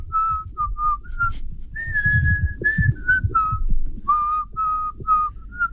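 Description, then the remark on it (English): Someone whistles a melody in a run of clear, sustained notes that rise and fall, phrased like a song, with faint low background noise underneath and no talking. “For those who have only joined us in the last two songs, give us your best whistle again.”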